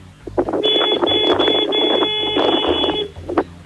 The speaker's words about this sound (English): You obviously can't hear it. Let's hear your horn again.